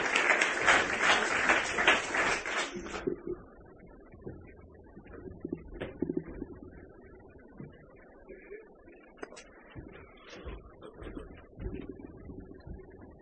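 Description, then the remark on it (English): An audience bursts into dense, loud applause for about three seconds, then the clapping stops abruptly and gives way to quieter room noise and scattered murmuring. “Round of applause there.”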